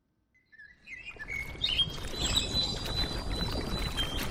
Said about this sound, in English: It is evening in Yaoundé and birds sing at a makeshift park near the Amadou Ahidjo Stadium, one of the sites of the 2016 Women's Football Africa Cup of Nations.